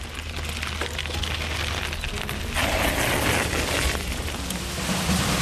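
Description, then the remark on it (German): Steady rushing, splashing water churns with a low rumbling undertone, growing slightly louder partway through, the continuous wash of the water wheel at Hubert Sixt's mill in Oberrakitsch turning, with no voices. “Im Hintergrund hört man schon, das ist das Wasserrad bei der Mühle des Hubert Sixt”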